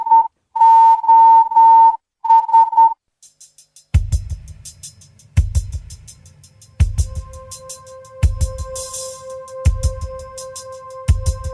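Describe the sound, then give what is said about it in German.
A bright electronic tone beeps out Morse code SOS, three short, three long, three short, clear and loud, opening a cover version of a song as a slow music track with heavy drum hits comes in. “Und hier ist eine Coverversion von … mit …. Wer kann morsen, erkennt sie jetzt sofort.”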